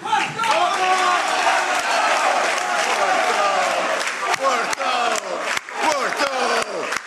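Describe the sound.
Hundreds of people applaud and shout together for André Villas-Boas at a Futebol Clube do Porto event, dense clapping mixed with rising chanting voices, loud and continuous throughout, with occasional sharper bursts of cheering.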